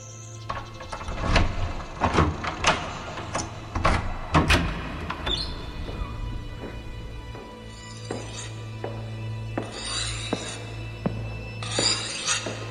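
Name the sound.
door opening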